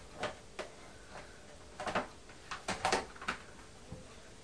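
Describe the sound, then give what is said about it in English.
A chair with a little paint still on it is moved, with a series of irregular wooden knocks and short scrapes, some clustered close together, amid otherwise quiet surroundings. “Yeah, chair. Chair? Yeah.”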